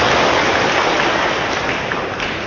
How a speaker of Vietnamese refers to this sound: Xin toàn thể quý Phật tử dành cho tràng pháo tay để nghinh tiếp Hòa thượng.